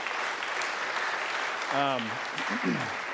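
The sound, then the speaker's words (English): The audience of First Baptist Moultrie applauds its pastor in a steady, dense wash of clapping that lasts throughout, with a brief voice or cheer rising above it partway through. “Yeah, so you should clap.”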